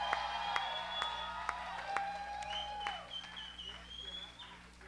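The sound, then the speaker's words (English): Audience applause at a live band show with sharp scattered claps over a steady crowd roar, while shrill whistles rise and fall throughout, as the band's drummer is introduced. “Would you please give a warm round of applause on the drums”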